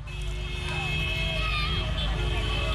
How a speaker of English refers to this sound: Guinea-Bissau cars whizzed past the presidential palace on New Year's Day, honking and waving the signature red and white scarf of candidate Umaro Sissoko Embalo.